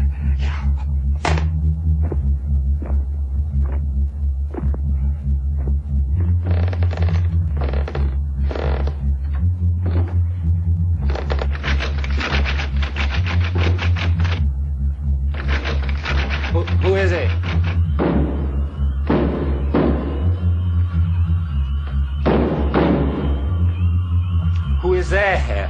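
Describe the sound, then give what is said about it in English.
Heavy, irregular bangs on the front door of the Hendricks house, made by William Hendricks' grizzled corpse, repeat one after another, some in quick clusters, over a steady low droning hum. “The painting now shows an image of William Hendricks' grizzled corpse banging on the front door.”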